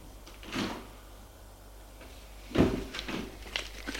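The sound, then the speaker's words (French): Elevator doors slide open as a woman steps out of the elevator, a soft mechanical rumble marked by two clunking thuds, the second louder, over a faint low hum and no voices. “Elle sort de l'ascenseur.”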